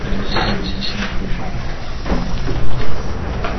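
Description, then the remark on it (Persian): A window slides open, letting in a steady wash of loud outside noise, a broad, continuous rumble like traffic, with a few louder knocks and bumps toward the end. “نه بلش کن ببند، صدا زیاده، ببند ببند.”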